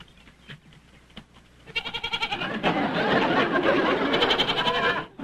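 A goat, the mascot of the racehorse Brandywine, bleats loudly, letting out two long, quavering cries in quick succession after a brief quiet stretch with faint background noise.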